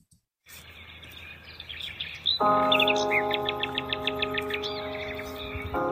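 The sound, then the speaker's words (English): Birds sing in quick, repeated chirps and tweets over a soft background hiss, joined partway through by a steady, sustained tonal drone beneath them. No one speaks. “I took some time recently to imagine what the birds are actually trying to tell me, and I wrote it down and recorded it.”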